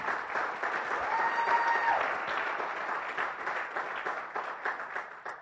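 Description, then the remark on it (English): A crowd at a Christmas worship service claps for the celebration of the birth of Jesus, in a dense, steady burst of applause that holds strong before gradually thinning and fading out, with a few whoops and voices mixed into the clapping. “And my prayer, though, okay, yeah, you can clap for that.”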